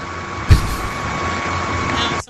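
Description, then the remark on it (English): A vacuum cleaner runs with a steady, loud motor roar and a thin high whine held throughout, broken by one brief thump early on before the noise cuts off at the end. “Now it sounds like a vacuum.”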